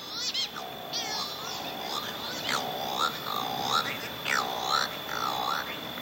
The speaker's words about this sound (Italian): Iniziamo questa intervista, oggi particolarmente interessante, con un suono che credo pochi conoscano, il suono della berta. Ascoltiamolo insieme.